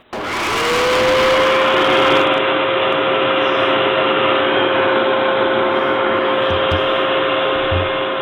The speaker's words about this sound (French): L'aspirateur. C'est une bonne réponse